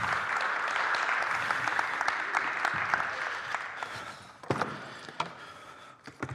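A crowd applauds steadily at close range, dense clapping that thins out toward the end into a few scattered, louder individual claps.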